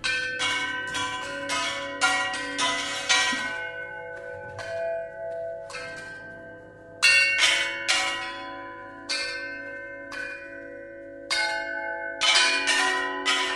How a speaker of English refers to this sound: Some of the instruments in this unique orchestra were custom-made for the elephants, including a gong fashioned from a circular saw that had been confiscated from an illegal logging operation.